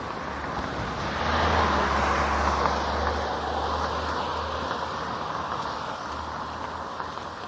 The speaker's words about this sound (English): Oh, there's another noisy truck. I wonder what it is with noisy trucks this morning. I'm about 10 minutes early, so maybe it's just normal traffic for this time of day on a weekday.